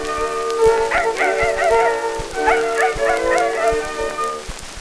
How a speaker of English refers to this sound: Hark, hark, the dogs do bark, beggars are coming to town.